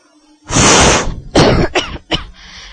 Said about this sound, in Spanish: ¡Me haces toser!